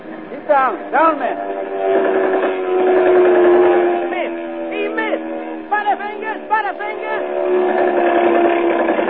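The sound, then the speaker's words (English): German Junkers dive-bomber planes circle and roar in to attack oil-blackened men clinging to a tiny raft, a loud, steady droning whine, while shrill whistling tones swoop up and down again and again over the drone. “Now the planes circle and come roaring in for the kill.”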